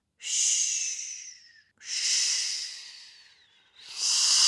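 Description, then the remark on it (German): A voice imitates the surf with three long, breathy "shh" sounds, each a hissing rush that swells and then fades, like waves washing in, separated by brief pauses. “»Sch, sch, sch«, macht sie. »Hörst du die Brandung?« »Ja, ich höre sie«, sagt Alina und macht auch »sch«.”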